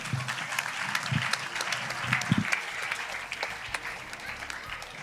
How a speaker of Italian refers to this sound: mi scuso anche con il rappresentante di Heart Riot che adesso presenterà il progetto La Foresta di Ambac, un applauso anche per lui.